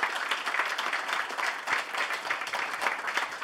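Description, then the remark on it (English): An audience at a Saturday afternoon show of the International Comedy Festival applauds itself for coming out, a dense wash of many hands with no single beat standing out, holding at an even, moderate level throughout and no voices heard. “And give yourselves a round of applause for coming out, supporting our show.”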